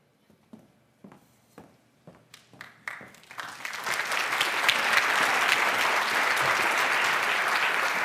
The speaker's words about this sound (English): So why do you suppose these people are clapping right now? I really don't know why they're clapping. I don't deserve any applause.